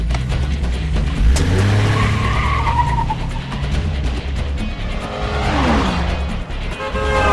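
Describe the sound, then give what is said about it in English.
A white SUV's revving engine roars as tires screech loudly through a sharp skidding handbrake turn, the squeal sweeping and wavering over several seconds as it swerves into a line of traffic amid steady traffic noise. “He does a handbrake turn and swerves into a line of traffic.”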